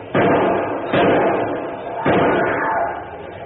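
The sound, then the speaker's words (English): A heavy metal safety door is hauled open with three loud clanking jolts, each followed by a sustained rumbling scrape of metal. “Get that safety door open so I can get out.”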